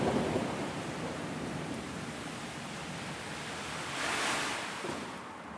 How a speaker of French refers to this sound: Et même aujourd'hui, l'orage.